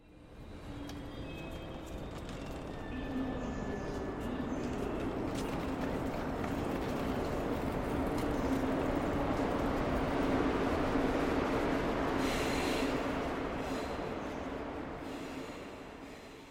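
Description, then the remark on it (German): A train rumbles steadily along the rails, a broad continuous roar with a low hum, occasional faint wheel squeals and a brief hiss near the end, swelling slightly in the middle. “Komm, wir fahren zum Bahnhof. So eine Zugreise, die ist bestimmt witzig.”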